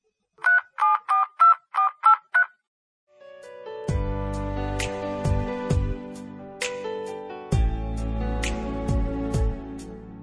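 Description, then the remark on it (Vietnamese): A quick run of about seven evenly spaced electronic phone tones, clear, like a number being dialed to make a phone call before the line rings, then music with strong low beats takes over. “Tóc dài đừng có nhấc máy đấy, để gấu nghe hết cảm ơn tình yêu đã.”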